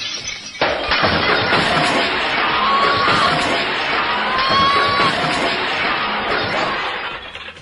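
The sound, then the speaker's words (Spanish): Glass shatters loudly and keeps crashing and breaking for several seconds, a dense, continuous clatter of smashing, with faint voices mixed into the chaos. “Mejor que salga este hombre de aquí porque, hombre, ya cristales no quedan más.”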